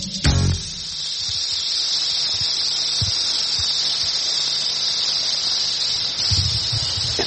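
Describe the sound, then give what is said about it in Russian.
An eastern diamondback rattlesnake, the most dangerous snake in the USA, in Florida, rattles in a steady, dry, high buzz that runs unbroken for about seven seconds, loud, with a brief low thump near the start. “Ромбический гремучник, самая опасная змея в США, по Флориде же.”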